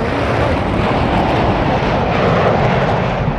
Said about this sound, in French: Il est 15h, 40 minutes, 11 secondes. André Turcat lâche les freins et Concorde, toutes réchauffes allumées, prend son envol.